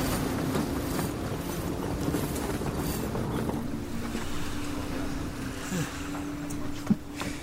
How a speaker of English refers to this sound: It's quite a sight. Hmm? The harbor of Tuman Bay.